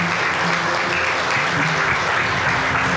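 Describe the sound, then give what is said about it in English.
At a church service, after a prayer, a crowd claps steadily for a woman for the full stretch, a dense, continuous wash of applause that stays loud and even throughout, with a few faint voices mixed in underneath. “Come on, let's give her a round of applause.”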